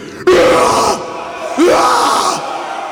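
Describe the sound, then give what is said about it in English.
A concert crowd at a recorded live gig screams and cheers in two loud surges, each rising sharply and holding for under a second before easing, with a few voices shouting above the din. “So, you know, this gig today, it's recorded. So you have to scream.”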